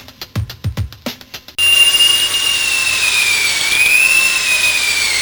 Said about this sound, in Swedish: Ja, nu ska vi ha fontanell 6. Ge mig borren.